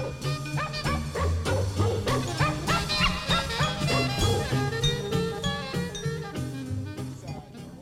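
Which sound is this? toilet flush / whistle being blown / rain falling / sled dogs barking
sled dogs barking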